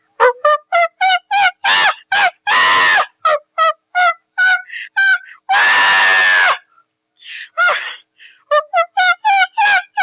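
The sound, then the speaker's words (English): A person imitates chimpanzee screams: rapid, rhythmic hooting bursts that build into two long, loud shrieks, then more quick staccato hoots, with no other talking. “screaming like a chimp.”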